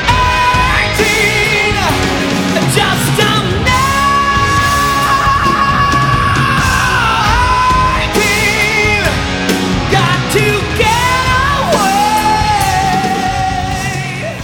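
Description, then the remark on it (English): A loud recording of a rock cover version released in 1988 plays continuously, with full-band instruments and a strained vocal line holding long notes over a steady, dense backing. “That was … by ….”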